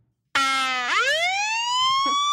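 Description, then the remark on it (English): After a moment of silence, a police car siren blares on suddenly as an officer pulls a car over, its loud, buzzy tone sweeping sharply upward in pitch and then holding a steady high wail. “I was like, that police officer is really close to me. Why is he riding me so much? And then all of a sudden I hear.”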